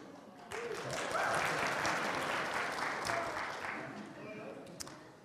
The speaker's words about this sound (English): How come he gets a clap for wearing that ridiculous outfit and I've got my Porsche jumper on? No clap.